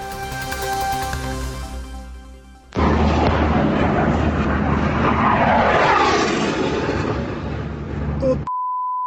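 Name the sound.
fighter jets flying overhead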